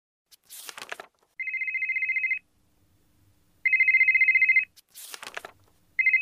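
A mobile phone ringtone rings loudly, its rapid trilling electronic tone bursts repeating about every couple of seconds, alternating with short harsh hissing bursts, with no one talking.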